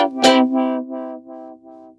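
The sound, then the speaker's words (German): Someone drills with a power drill outside at 8:45 on a weekend, a steady, buzzing mid-pitched whine, opening with a harsh burst and then pulsing in five or six regular surges that gradually soften. No one speaks. “Da bohrt jetzt jemand.”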